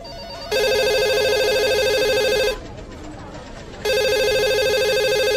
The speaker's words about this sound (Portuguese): Eis que toca o telefone da loja e a recepcionista, super motivada, atende.